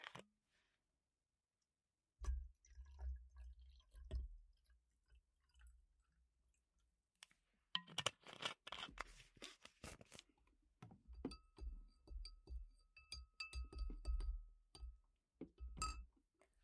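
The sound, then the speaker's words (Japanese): Plum wine is poured into a glass, with glassy clinks, a splashing trickle and soft handling thumps over a low background rumble; no one speaks. “今日は梅酒の準備してまーす。”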